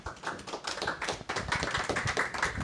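An audience applauds the first reader at a literary reading event, a dense patter of many overlapping hand claps holding steady at a moderate level throughout, with no voices over it.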